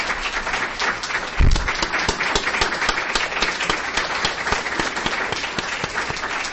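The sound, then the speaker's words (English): Sustained applause from a sizable crowd for the research assistants, dense overlapping claps going on steadily for several seconds, with a brief low thump near the start. “So I'd like a round of applause for all the RAs.”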